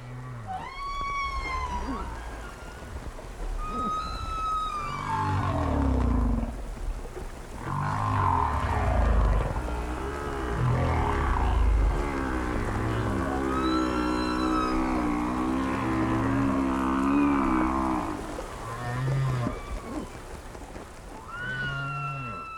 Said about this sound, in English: And these are humpback whales recorded by Roger Payne.